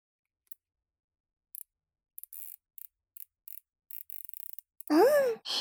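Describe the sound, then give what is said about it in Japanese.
A zip tie being pulled tight to bind a person's two hands together, heard as a series of short, crisp ratcheting clicks in uneven bursts, followed by a brief vocal groan at the end. “両手をきつーく縛って、と。よし。これ、結束バンドだから、簡単には解けないよ。”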